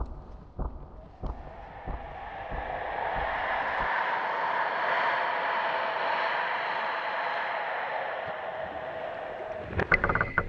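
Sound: boat moving on water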